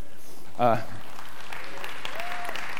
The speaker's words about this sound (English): That's all I had to do to get applause, was build something out of pallet wood.